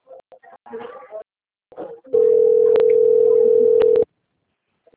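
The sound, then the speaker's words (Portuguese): A steady, loud telephone dial tone holds at one low-mid pitch for about two seconds, with a couple of faint clicks inside it, after a few brief, muffled vocal sounds. “telefone.”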